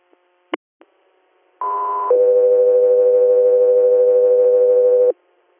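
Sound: dispatch radio alert tones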